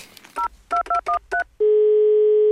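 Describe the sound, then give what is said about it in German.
Five quick touch-tone beeps punch in a number, each a short dual-pitched blip, then a steady loud dial or ringing tone holds to the end. No one speaks. “Ja, also auch am Telefon.”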